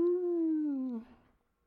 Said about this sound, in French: Il y a une meute de loups qui rôdent, là. On les entend hurler.